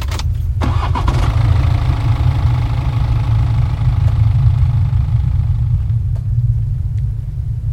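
A car engine cranks with a few sharp starter bursts as the key is turned in the ignition, then catches and settles into a loud, steady low rumble, idling with no voices.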